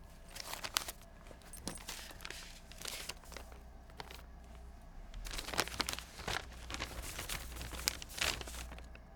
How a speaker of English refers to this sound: Paper coming out of purse, sound effect, and action.